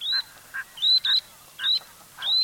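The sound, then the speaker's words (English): Least sandpiper calls, a series of thin, high, rising trills repeated about every half second, interspersed with lower short notes, clear with no talking. “The least sandpipers you're hearing travel to and from the Arctic year after year.”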